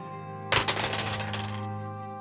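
A die is rolled onto a hard tabletop during a tabletop game, hitting with a sharp clack, then skittering and tumbling in a quick run of light, rattling taps for about a second before settling on a 19, over a steady low background hum.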